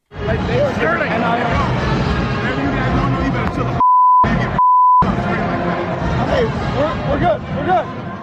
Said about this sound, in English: He said bleep, bleep, bleep, bleep. Yeah, a lot of bleep.